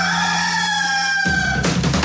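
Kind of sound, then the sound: bird, rooster crowing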